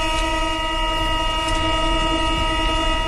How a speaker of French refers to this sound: C'est simple ce bruit-là, hein, celui des portes de métro qui se ferment. On ne l'entendra pas demain sur la plupart des lignes.